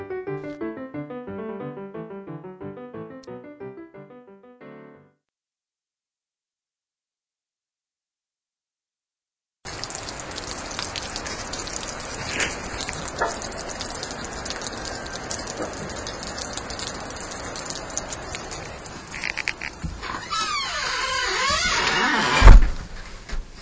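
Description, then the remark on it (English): After a short musical passage and a pause, a river, normally about the size of a brook, rushes steadily with rain pattering, building toward the end where a louder clattering burst of ice slides off a roof. “That is the sound of the river, which normally is about the size of a brook, rushing by, and the sound of rain and ice coming off the roof.”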